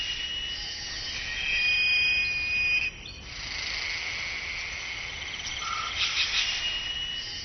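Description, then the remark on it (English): A dense chorus of jungle insects in the late afternoon trills and buzzes steadily at a high pitch, timing their calls to fall between one another's, with overlapping calls weaving in and out and one clear whistling note standing out briefly. No one speaks. “Insects work in harmony, timing their calls to fall between the notes of others.”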